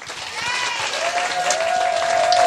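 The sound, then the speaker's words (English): A crowd applauds as a vote for Baron Vaughn's Keanu Reeves entry, a dense wash of clapping with a long, high whistle that slides and then holds over it. “we will vote on a winner with your applause”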